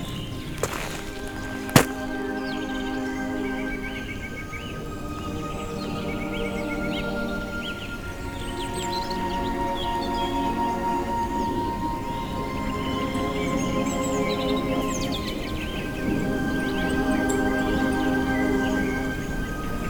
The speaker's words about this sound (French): Pour l'instant, la seule chose c'est le silence et les paisibles gazouillis.